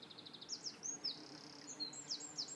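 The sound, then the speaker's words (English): Birds chirp in a quick series of high, thin notes, some in short trills, fairly quiet, over a steady low murmur of flowing river water, on a riverbank beneath a hawthorn tree in the Oxfordshire countryside, with bees humming in the background. No one speaks. “I'm surrounded by sheep, bird life, the flow of the water, and the sound of the humming of bees that you'll hear in the background.”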